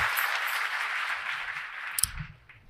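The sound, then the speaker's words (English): A church audience claps a hand clap of praise to the Lord as they take their seats, a dense, steady patter of many hands that holds for a couple of seconds, then thins and fades, with a brief low thump near the end. “Give the Lord a hand clap of praise as you take your seat.”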